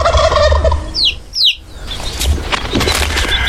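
A loud poultry call rings out, a rattling gobble-like burst from a rooster or turkey, repeated in quick harsh pulses with a brief flutter midway.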